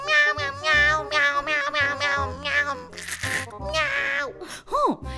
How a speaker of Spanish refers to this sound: Los gatos recibieron la noticia encantados. ¡Miau, miau, miau, miau!